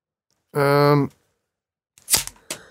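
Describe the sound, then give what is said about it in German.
A short, steady voiced tone is followed by a pause, then a bottle pops open with a sharp, crackling burst and a second smaller pop just after, during a bottle-popping contest called a "Plopp Battle". “Dann ja, Plopp Battle. Ich versuche mal nicht, das Mikro abzuschießen.”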